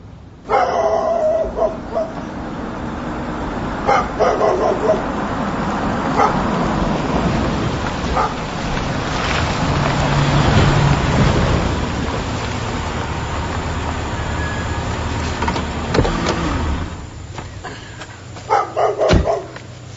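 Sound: dog barking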